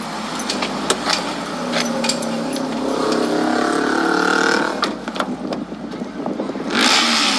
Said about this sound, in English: Yeah, that's a white man on that motorcycle.